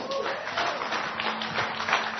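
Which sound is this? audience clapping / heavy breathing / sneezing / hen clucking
audience clapping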